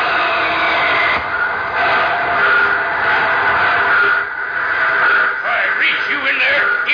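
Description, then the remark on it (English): A train rumbles loudly and steadily while high metallic brake squeals grind and waver over the top, rising toward the end as it slows to a halt outside a tunnel on the upgrade of Coyote Pass. “They're flagging you down. Slam on those brakes.”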